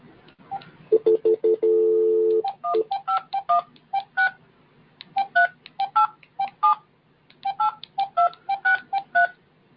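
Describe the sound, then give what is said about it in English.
Telephone keypad tones beep in quick clusters of short, crisp presses while dialing into a conference call prayer line, with one longer steady tone near the start. Loud, with no voices. “Access code or phone number you have dialed is incorrect.”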